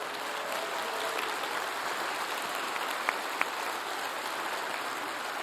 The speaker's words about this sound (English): could I ask you to stand wherever it is that you are right now, at whatever campus you are at? We'll clap. Yes, let's clap for them.